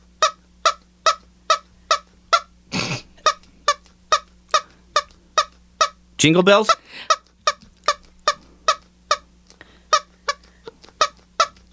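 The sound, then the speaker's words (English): A squeaky honking toy squeezed over and over in a steady, quick rhythm, each short nasal honk evenly spaced, with a couple of brief bursts of voice breaking in partway through. “Because the one that he has, because he'll squeeze it and he goes, wah, wah.”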